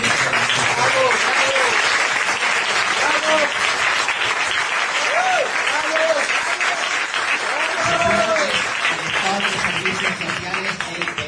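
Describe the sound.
Sustained audience applause at a presentation event, a dense, steady wash of many hands clapping for over ten seconds, with scattered cheers and voices rising above it.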